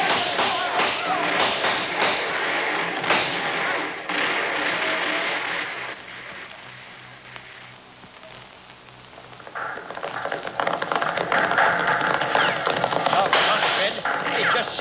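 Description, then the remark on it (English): Men fire their guns in a dense, rapid crackle of gunfire with many overlapping shots and sharp cracks. It eases off through the middle, then builds again into a loud, steady barrage. “Come on, men, start throwing some lead.”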